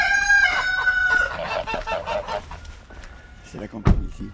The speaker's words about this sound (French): Il y a des poules là qui... Ah ben, il y a une poule qui a eu 7 poussins là, oui.